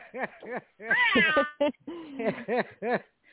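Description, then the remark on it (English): A person imitates a cat, making a series of loud meows: a couple of short ones, a longer drawn-out wavering meow, then several more short meows in quick succession. “But you want to give out your hey, the mama cat meow.”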